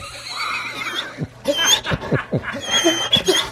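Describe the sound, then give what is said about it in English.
A person imitates a grown dog, making a run of short, high-pitched whining yelps that rise and fall in pitch, fairly loud, after a strained, squeaky whimper. “No, that's a grown dog. No, that was my impersonation of my...”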